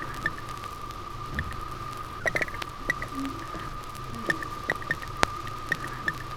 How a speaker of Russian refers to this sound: Звуки, издаваемые вьюнами при движении в аквариуме.